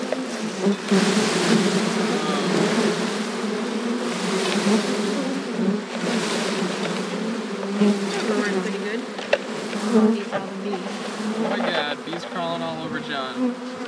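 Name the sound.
honeybee swarm buzzing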